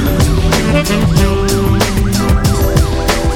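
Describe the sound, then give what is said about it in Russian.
Loud, dense street noise from a traffic jam: a steady engine rumble with horns and a wailing emergency siren sweeping up and down over it, continuous, with no one talking. “Ну, в пробке я стою. Где я еще могу быть?”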